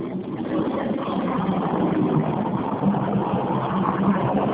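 airplane passing overhead

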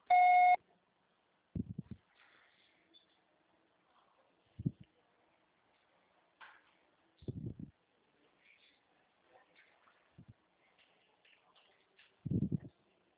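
voicemail recording beep

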